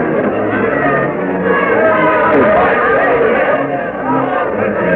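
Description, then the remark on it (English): A large crowd waiting before the Raleigh Tavern, extending up and down Duke of Gloucester Street for an address by Governor Fouquet and Colonel Mercer, murmurs and chatters, many overlapping voices forming a steady, dense hubbub with no single speaker standing out. “The crowd waiting here before the Raleigh Tavern extends far up and down Duke of Gloucester Street.”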